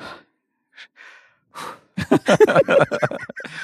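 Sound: long exhale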